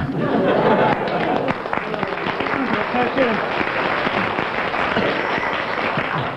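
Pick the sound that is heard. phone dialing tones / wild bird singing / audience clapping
audience clapping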